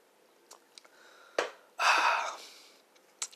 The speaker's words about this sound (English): But first, I'm going to take some gulps of my alcohol.